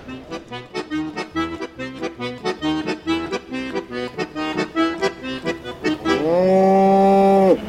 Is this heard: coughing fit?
no